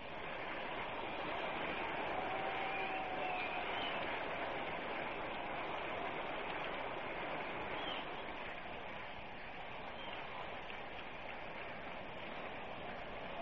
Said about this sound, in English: This is a wonderful ovation. Let's listen to it for Roy Campanella.